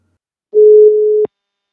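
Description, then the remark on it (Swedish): One steady, mid-pitched telephone ringing tone sounds clearly for under a second, heard through a phone line while a call is placed for a telephone interview, then cuts off with a soft click. “Så nu tänker jag ringa upp”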